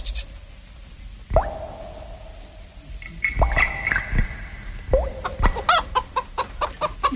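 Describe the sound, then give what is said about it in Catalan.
Water drops in a toilet bowl, amplified and recorded underwater with a hydrophone (a submersible microphone system): scattered resonant plops with ringing, bubbly tones that bend in pitch, sparse at first, then quicker and denser toward the end. No one speaks. “I sí que hi ha gotes, però estan amplificades mitjançant un sistema de microfonia submergible.”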